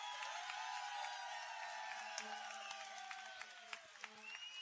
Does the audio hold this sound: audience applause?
yes